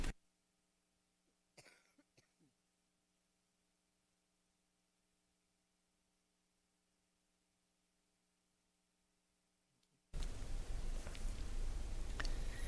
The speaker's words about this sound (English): I need to cough, so could you cut the mic off?